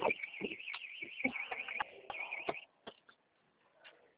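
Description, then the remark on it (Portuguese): A car alarm sounds a rapid, warbling electronic siren for about two and a half seconds, punctuated by sharp clicks, then cuts off, leaving faint scattered noises. “E o alarme do carro aqui falou.”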